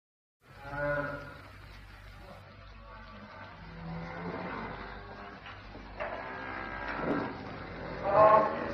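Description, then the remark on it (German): A cow that is for sale moos several times, long drawn-out lowing calls over a steady low hum and hiss, with a muffled voice briefly in the background. “Da vorne hab ich die Kuh, die ich verkaufen will.”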